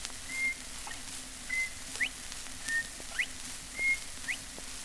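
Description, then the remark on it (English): A person whistles the bobwhite's call four times in a steady rhythm, each a short steady high note followed by a quick rising upward whistle, with no talking. “Bird song, the Bob White.”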